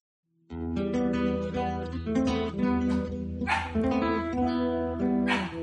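animal, dog barking

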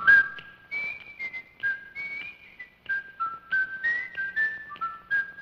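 sound effect, whistled TV theme tune

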